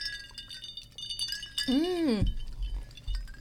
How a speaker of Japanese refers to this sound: やっと 乾杯しましょう。 はい、 はいはい、では乾杯。 乾杯。 乾杯。